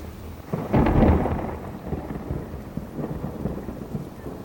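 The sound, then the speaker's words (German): A deep rumble of thunder swells early and rolls on while steady rain patters down, the downpour continuing as a dense hiss after the thunder fades. “Der Regen setzt ein.”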